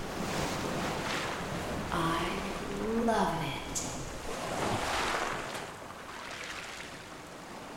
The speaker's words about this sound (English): waves are a powerful melody of relaxing, healing, and focusing your mind.